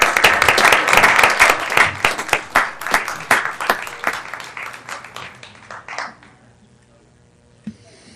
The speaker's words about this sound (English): Yeah, give a round of applause.